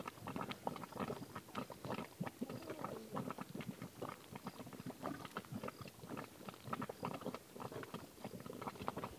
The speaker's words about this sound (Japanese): こう泥の沼の底から、 ね、 本当に泡がボコボコ と、ボコボコボコいってましたね。これがポッケで、ボッケ、ポッケは湧き立つ、 ポッケは煮立つこと、煮え立つこと、 煮え立つという意味ですね。